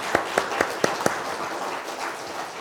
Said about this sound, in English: But why don't we just give them all a round of applause for their hard work.